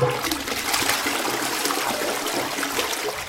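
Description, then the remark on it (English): A toilet flushes loudly, a steady rushing gush of water that holds its strength for a few seconds without any voices. “He then went home, took all the rotten fruit scattered about his tunnel, and with firm resolve, flushed it all down the toilet.”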